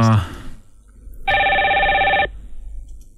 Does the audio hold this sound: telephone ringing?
yes